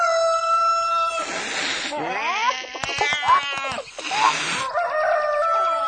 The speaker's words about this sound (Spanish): El astuto gato estaba a punto de comerse a la gallinita, cuando de repente Don Aquiles Espuelón, el gallo más galante de todos, dio la voz de alarma.